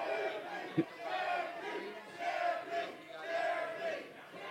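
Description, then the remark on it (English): A large wrestling crowd, firmly behind one wrestler, cheers and chants in a sustained, dense roar that swells in waves, with one short, sharp thump early on. “And the crowd is firmly behind”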